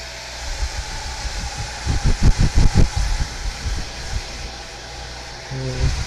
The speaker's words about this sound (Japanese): ドライヤーしよう。